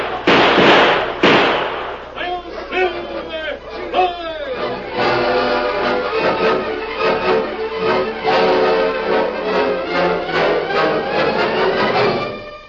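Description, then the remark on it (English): Two loud, sharp gunshots in a Lone Ranger radio drama crack out in quick succession at the start, then give way to a dense, sustained wash of shouting voices and tonal sound that continues to the end. “Shoot him, boys. Don't let him get away.”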